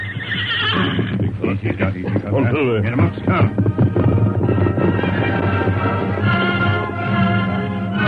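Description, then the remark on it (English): The horses of the Lone Ranger and Tonto, including Silver, on the move along a coast trail, with a loud, wavering whinny rising over a steady, busy backdrop of hooves and movement that stays fairly loud throughout. “Then they pulled their horses to a slow pace.”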